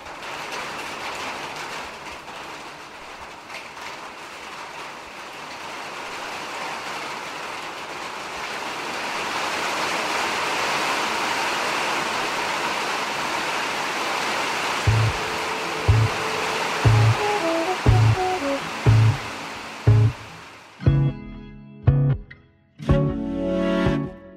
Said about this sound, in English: This request comes from Carlos at Hill Correctional Center. Carlos was born in Puerto Rico and wanted to hear the sound of rain falling on a metal roof because it reminds Carlos of home.